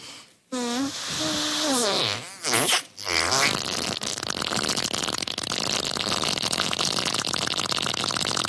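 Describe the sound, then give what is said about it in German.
A woman blows loud, buzzing raspberry fart noises with her mouth, imitating a fart: a wavering pitched blast followed by sputtering bursts and then a long, rough, continuous flapping rasp. “wie sie furzt. Allerdings nicht wirklich, sondern mit ihrem Mund, um andere Leute zum Lachen zu bringen.”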